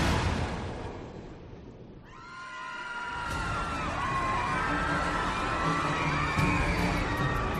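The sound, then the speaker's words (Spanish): A heavy, rumbling impact as the cruise ship Costa Concordia strikes a rock at night gives way to passengers screaming in panic, many shrill voices overlapping loudly and continuously. “De pronto, un fuerte impacto, acompañado de un atroz sonido, interrumpió la calma en el interior del barco.”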